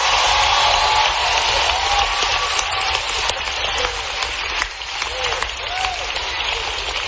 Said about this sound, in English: Now clap. Go ahead. Clap now.